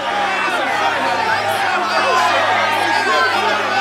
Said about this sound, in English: a mighty roar rose from the crowd.